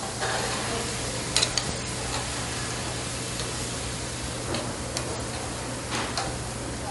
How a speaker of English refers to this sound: It's an early Thursday morning at Winter Park. Players and coaches gearing up for a big game. And in the kitchen, there's plenty of activity.